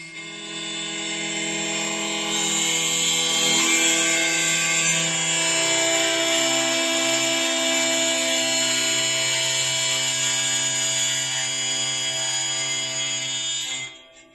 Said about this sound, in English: It has kind of like that lazy over-the-water sound. You're right. It's actually – this is a wheel harp